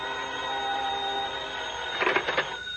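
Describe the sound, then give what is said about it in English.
A payphone bell in a phone booth rings in a short double burst near the end, fairly loud over a steady droning hum, as a return call comes in; no one speaks. “I waited in the phone booth until Jim called me back.”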